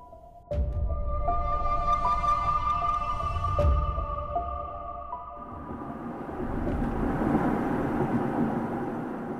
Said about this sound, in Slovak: Sme v aute a inak celkom tiché auto, takže čo to je, nejaký hybrid? Diesel.